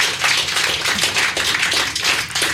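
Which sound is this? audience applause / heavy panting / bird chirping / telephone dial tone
audience applause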